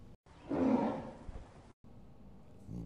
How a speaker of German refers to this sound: Ihr habt ja eben den Tiger gehört, ne?